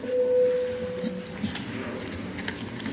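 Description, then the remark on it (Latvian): A parliamentary voting bell, rung before a vote on amendments to the military service law in second and final reading, sounds as one steady, mid-pitched electronic tone lasting about a second before fading, with faint background murmur and a couple of small clicks afterward. “Lūdzu zvanu.”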